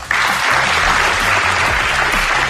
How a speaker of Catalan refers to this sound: No és habitual ni passa cada dia que un català sigui ovacionat per tota una sessió plenària del Comitè Olímpic Internacional